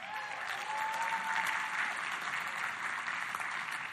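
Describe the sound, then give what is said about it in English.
An audience of volunteers at Centerpoint's Ovations event claps steadily for several seconds, a dense, even wash of applause with a faint whistle near the start and no one speaking. “And you guys actually clapped without a sign being held up that said clap.”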